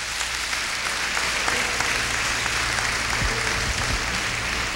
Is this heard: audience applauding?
yes